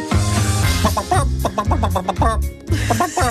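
Hens from the farmyard of the Moulin de Vanneau cluck in quick, rhythmic bursts, woven into a loud electronic music track with a steady thumping bass line and no talking.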